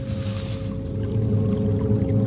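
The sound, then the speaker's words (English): Steady flowing water rushes continuously down below a steep hill, beneath a low droning hum, growing slightly louder toward the end, with no voices present. “I hear water down there.”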